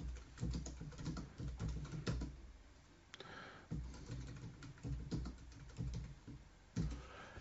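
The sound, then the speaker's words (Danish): Steady typing on a computer keyboard, entering text into a poll element on a page: a rapid run of crisp key clicks with a brief pause midway before the tapping resumes. No voices. “Og så kan vi jo skrive herop.”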